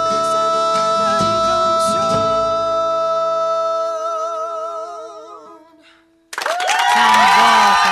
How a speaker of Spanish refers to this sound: Aplausos se reproducen detrás del vidrio.